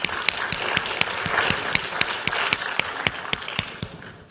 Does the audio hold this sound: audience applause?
yes